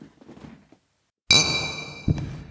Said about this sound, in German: aber wir sollten erstmal anstoßen, ne?